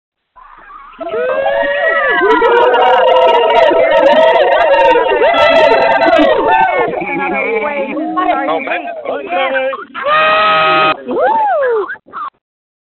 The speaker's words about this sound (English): I want to hear you scream out loud as I unmute the lines right now.